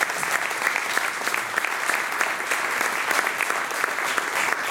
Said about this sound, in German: Und ich glaube erstmal ein riesen Applaus